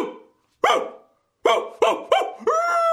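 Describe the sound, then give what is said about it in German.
A man's voice imitates a dog as a demonstration for a doctor, letting out a series of loud, harsh barks, spaced unevenly and ending in a drawn-out howling yelp. “Mein Gott, Sie bellen ja tatsächlich wie ein Höllenhund.”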